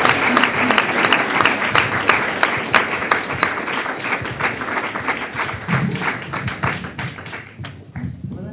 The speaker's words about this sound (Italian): Sono persone come voi, come me, molte persone non hanno mai fatto teatro e si sono messe molto in gioco per farlo, e quindi niente, vi chiedo un grandissimo applauso per loro e vi auguro un buon viaggio.